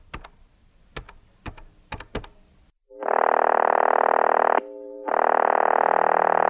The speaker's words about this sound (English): With trembling hands, my lanky fingers pressed out the phone number.